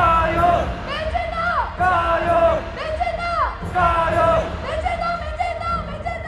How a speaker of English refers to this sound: Oh, wow, the jia you, like add oil, go for it, go for it. Yeah, it's kind of a standard Chinese cheering phrase. But if you listen carefully, there was a lot of chanting about how Taiwan is the world's Taiwan, as opposed to China's Taiwan.